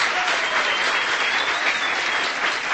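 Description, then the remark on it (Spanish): Guests at a wedding ceremony applaud the newly married couple as they are presented, with dense, continuous clapping that holds at an even, fairly loud level throughout, without speech on top. “Si pueden, por favor, darle un aplauso a los novios, a los esposos.”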